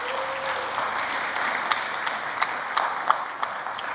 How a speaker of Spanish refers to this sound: Vamos a darle un aplauso al Señor en esta mañana, ¿verdad que sí?